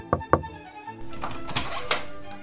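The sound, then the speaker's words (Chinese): Two firm, hollow knocks on the wooden door of the Eagle Claw villa in quick succession, solid, followed by a wash of low, steady background ambience with a few faint bumps. “到了那里，我们敲敲门。”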